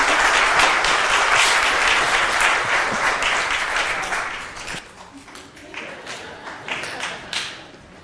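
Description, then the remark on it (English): A church audience applauds warmly to welcome new members, a dense wash of clapping that holds strong for several seconds before thinning out into scattered individual claps as it fades. “So give them a round of applause.”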